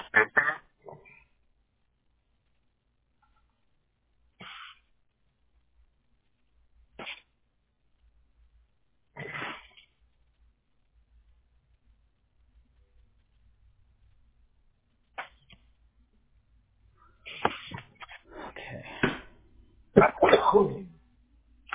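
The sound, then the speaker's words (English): A sneeze-like burst, followed by several more short, sharp blasts spaced out over silence, ending in a louder cluster of honking, snorting outbursts. “Not sure if that was a sneeze, but God bless you, sir, if it was.”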